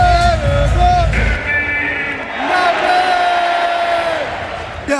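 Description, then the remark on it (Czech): A loud, enthusiastic shout rings out, with strained, harmonic-rich voice, followed by a second sustained yell amid crowd noise: a volleyball fan cheering at the mention of French volleyball player Erwin Engapet. “A při vyslovení jména Erwin Engapet vykřikl nadšení.”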